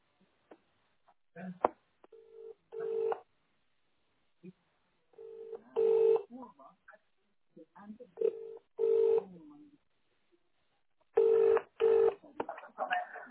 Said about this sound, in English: Wait, I'm calling through to my mum just now. Don't worry.